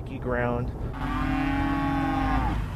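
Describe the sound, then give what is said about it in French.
Dairy cows moo loudly, a short rising call followed by a long sustained low moo, over a steady background rumble of huge fans running above a herd of 2000 dairy cows to keep them cool. “Joe Eroso fait tourner des énormes ventilateurs au-dessus de ses 2000 vaches laitières”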